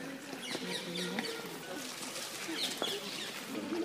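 birds chirping

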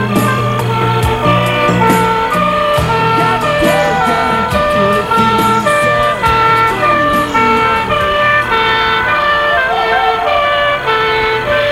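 ambulance siren

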